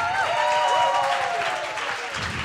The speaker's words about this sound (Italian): Diciamo, facciamo un applauso ancora a ….